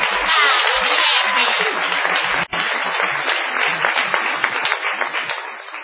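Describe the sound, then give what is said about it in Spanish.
A crowd breaks into sustained applause, many hands clapping in a dense, loud, steady wash that drops out for an instant midway before carrying on at full strength. “Y nos queda todavía una ovación más que no tenemos a quién dedicarla”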